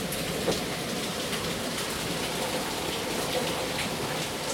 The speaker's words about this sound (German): Den spiele ich auch mal kurz ein, weil das auch, weiß ich nicht, dieser Klang von Regen. Einfach mal reinhören. Gerade seit gut zwei Tagen ungefähr ist jetzt die ganze Zeit Jugo. Man hört einfach nur extremen Regen.